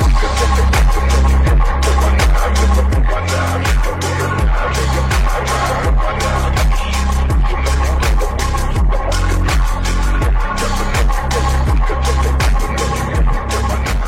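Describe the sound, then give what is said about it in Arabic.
A Toyota 4x4 off-road vehicle, offered by Toyota Abdul Latif Jameel for test drives, grinds uphill in first gear, its engine laboring in a loud, steady low drone with rhythmic throbbing pulses, with no voices. “شيء جميل جدا تويوتا عبد اللطيف جميل انك تجي تجرب سيارات التويوتا الفور باي فور وتشوف بنفسك كيف الامكانيات هنا في وسط الأفراد.”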